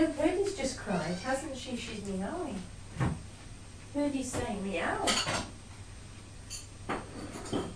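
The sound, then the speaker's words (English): A pet cat named Peggy meows twice, drawn-out wavering cries, asking for food, with sharp clinks of dishes and cutlery clattering in between and afterward. “She's meowing.”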